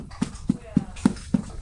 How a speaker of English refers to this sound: That's a horse smacking its lips together.